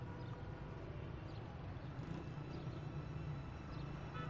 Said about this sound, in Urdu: یہ منحوس ٹریفک انسان کو کہیں کا نہیں رہنے دیتی, دیکھ تو رہے ہو بھیڑ ہے.